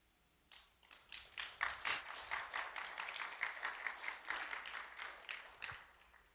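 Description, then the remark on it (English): A crowd breaks into applause, many hands clapping in a dense, steady patter that swells quickly and holds for several seconds, moderately loud with no voices over it. “It's God who gets that glory, God that gets that applause.”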